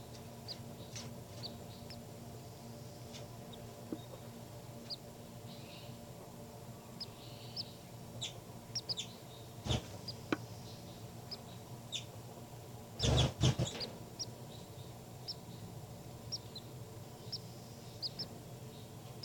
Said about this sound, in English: Baby birds are calling a lot louder now. Point it back at the baby birds.